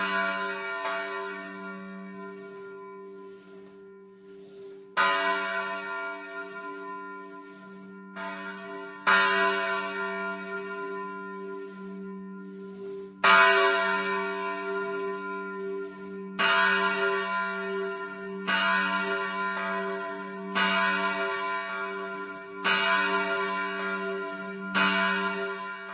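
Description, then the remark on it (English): Church bells rung by hand in the manual ringing tradition of Moravia toll in slow, somewhat uneven strokes, each clang ringing out and decaying over a steady low hum, loud with no voices. “Along with these elements, the tradition of manual ringing has also survived.”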